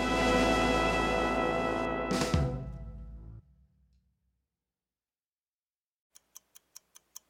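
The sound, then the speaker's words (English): A full musical sting ends with a swoosh and fades into silence, then a crisp clock starts ticking in a steady, quick rhythm, about six ticks. “Clock's ticking.”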